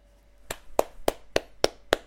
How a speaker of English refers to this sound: This is me applauding Mike Florio at Pro Football Talk.